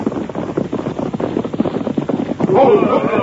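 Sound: horses' hoofbeats approaching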